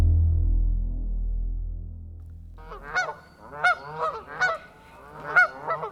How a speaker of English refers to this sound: St. Louis is a long way from Canada, but geese named for our northern neighbor are ubiquitous in the STL area. And springtime means that Canada geese are staking out spaces in parks and office courtyards to build nests to lay and incubate eggs.